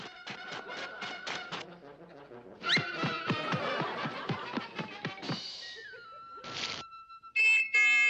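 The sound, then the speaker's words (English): A person imitates a dog with a quick run of yapping barks, then a longer burst of excited barks, ending in a drawn-out whine and a few short yelps, fairly loud. “If you want to play dog, go ahead.”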